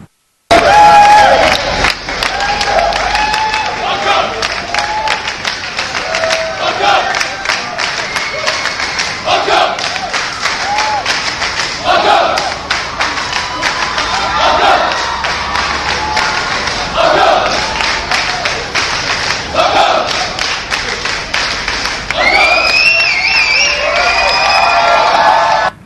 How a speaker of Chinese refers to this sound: 咁就一開張嘅時候係啦，咁就喺度拍手掌，好似呢條片咁樣咧，我哋睇一睇啦。